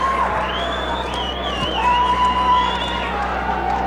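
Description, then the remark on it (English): A crowd of people screaming and cheering continuously, with shrill, sustained high-pitched cries rising and wavering over a dense, steady roar of voices. “Listen to those people screaming”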